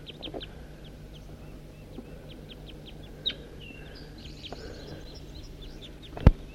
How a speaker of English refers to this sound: I'm on my way up to the hilltop and I see a whole bunch of crossbills foraging in a tree right here. And I got 5:03 with me. And I'm pointing at the wild flock.